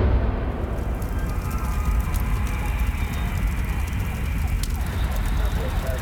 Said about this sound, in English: Karen's car was in the middle of a field, so ablaze